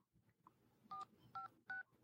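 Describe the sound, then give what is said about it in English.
Three short touch-tone dialing beeps in a steady sequence, each a clear two-note electronic tone, from a phone dialing by itself, over a low background rumble. “And his phone just starts dialing by itself.”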